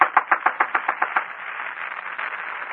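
A quick, even run of about nine sharp knocks on an apartment door, lasting just over a second, then a steady hiss carries on with no further knocking.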